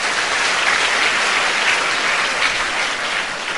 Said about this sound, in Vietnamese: các bạn hãy cho một tràng pháo tay thật lớn.